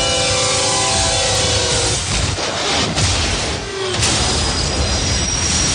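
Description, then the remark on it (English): A heavy, million-pound freight train rumbles loudly past on the tracks at a crossing, a steady dense roar with metallic wheel screech and tonal hum over the first seconds, no talking. “And on the tracks, we have Bull, a million-pound freight train that takes a mile to stop.”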